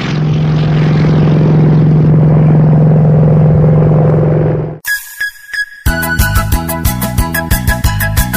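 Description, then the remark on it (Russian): A propeller airplane in the sky drones loudly and steadily for several seconds with a low engine hum, then cuts off abruptly as bouncy rhythmic music begins. “Посмотрели мы вперед, видим в небе самолет.”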